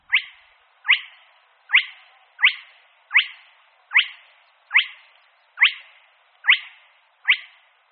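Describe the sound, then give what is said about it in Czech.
A spotted crake calls alone: a steady series of ten sharp, whip-like rising notes, evenly spaced just under a second apart, each with a quick fading tail. “Přástal kropenatý.”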